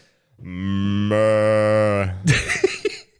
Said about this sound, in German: Die Kühe sind gut. Ja. Die Kühe sind so cool.